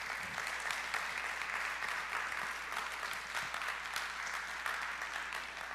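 A church audience claps together as a clap offering to the Lord during a service, a sustained, steady round of applause, a dense crackling wash of many hands that holds an even loudness throughout with no voices rising above it.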